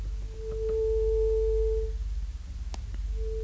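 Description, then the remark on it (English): A steady, pure tuning fork tone hums for about two seconds with a faint overtone above it, then fades, returning briefly near the end over low background rumble and a few soft clicks. It is sounded as a reference before recording the word tones of a speaker from the Putao area, Kachin State, Burma. “But before the tones, I'll give the tuning fork again.”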